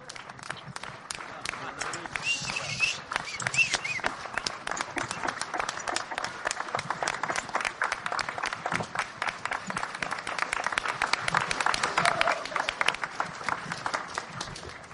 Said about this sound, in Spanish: Gracias, gracias, amigos. A todos nuestros países, por favor, demos palmas para todos estos grandes amigos.